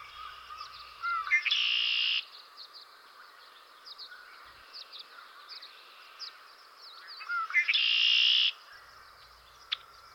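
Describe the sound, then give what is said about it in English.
A male red-winged blackbird sings twice, each song a short lead-in note swelling into a loud, buzzy trill, over a steady background of softer chirps and bird chatter outdoors. “That's a red-winged blackbird. You'll see more red when he spreads his wings and he sings.”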